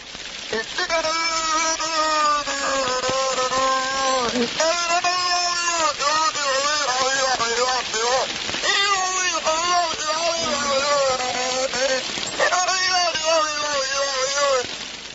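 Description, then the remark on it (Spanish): Strange underwater sounds of a marine mammal, recorded by scientists of the National Marine Mammal Foundation in the United States: loud, eerie wailing calls with rich harmonics that rise and fall in pitch, coming in several long bursts separated by brief pauses, over a steady hiss. “Científicos de la Fundación Nacional de Mamíferos Marinos en Estados Unidos informaron ayer que registraron sonidos”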